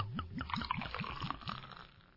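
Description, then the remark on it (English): A foamy drink being poured, with a quick run of rhythmic glugs that trail off into a soft, frothy gurgle as the pour settles. “All right, we're going to pour this.”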